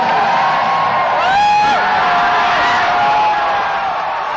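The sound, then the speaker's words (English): A large crowd at an election night gathering at the Henry Fonda Theater on Hollywood Boulevard, waiting for results and hearing updates from around the state, roars steadily. Loud cheers and sliding whoops rise above the dense wall of voices, especially in the first half, and no single speech stands out. “The crowd hears updates from around the state.”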